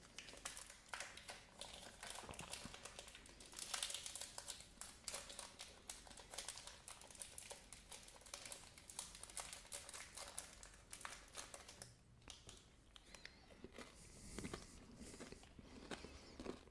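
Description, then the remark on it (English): A wrapper crinkles as it is peeled open, followed by crisp crunchy bites and chewing of a vegan, lactose-free oat snack bar with rice crisps, amaranth puff and seeds, dense rapid crackles with no talking. “This is crunchy but soft at the same time.”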